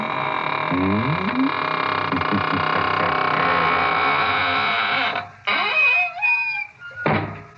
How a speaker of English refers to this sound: And now it's time to close the squeaking door, so good night.